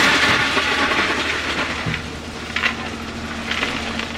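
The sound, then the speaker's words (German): A heavy track construction machine rumbles and grinds on a railway track, removing subsoil and old ballast and lifting track panels of screwed-together rails in 10 to 12 metre sections, with a steady low drone, metallic clanks and brief bursts of hiss partway through. No one speaks. “der hier den Bodenausbau und den Schotterausbau vornimmt. Aber auch die Gleisjoche hochhebt”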